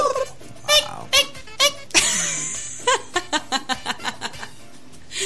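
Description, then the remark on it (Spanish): A voice imitates a peacock, like those heard in the mornings at the private plots of San Isidro, with a few loud, high, wailing cries, followed by a quick run of rhythmic laughter bursts that fade out near the end. “Hay pavos reales, pues yo subo al cerrito y se escucha en la mañana. Así, ¡oh!”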